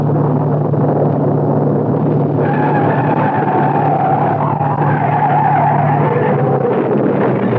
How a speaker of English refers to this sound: Harry Clark's death from the skid that sent him hurtling through the guardrail